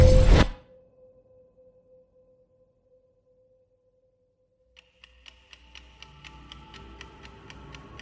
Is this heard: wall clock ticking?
yes